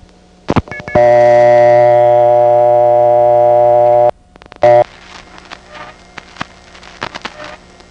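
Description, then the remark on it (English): Panel telephone switching equipment in New York City, heard over a phone line in the 1970s: a few sharp clicks, a loud buzzing harmonic tone for about three seconds, a brief burst, then scattered crackles and clicks over line hiss. “But the panel installations in New York City were quite safe because they were surrounded by more city and then big suburbs, and so they didn't have to connect to any steps at all.”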